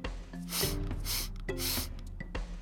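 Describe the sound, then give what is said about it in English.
Two long, deep sniffing inhales, fairly loud, separated by a brief pause and mixed with faint humming tones, with no talking. “I lowered my sensing divisors and punched in the commands for deep sniff.”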